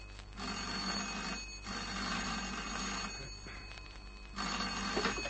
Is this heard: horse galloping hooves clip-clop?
no